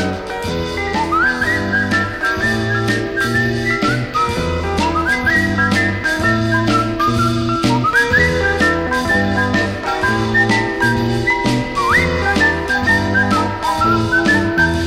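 A bright, melodic whistle carries a catchy rock and roll tune, with sliding notes and short phrases riding over a steady, upbeat band accompaniment of bass, drums and guitar.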